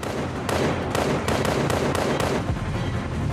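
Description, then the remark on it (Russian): A rapid string of about seven sharp, loud gunshots cracks out at uneven intervals over a dense, rumbling background, with no voices. “Ты не сможешь увидеть больше трех выстрелов. Остальные продырявят твое тело.”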